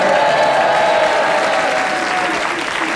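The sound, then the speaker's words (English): A studio audience cheers and applauds loudly and steadily for a few seconds, a dense wash of clapping with whoops and shouts mixed in, sustained throughout. “If you think he's slim and lithe, would you cheer for Tony?”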